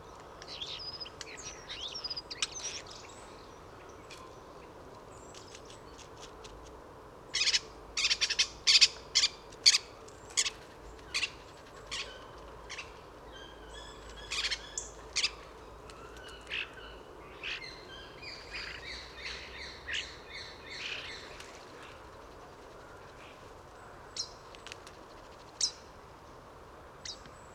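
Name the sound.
starling song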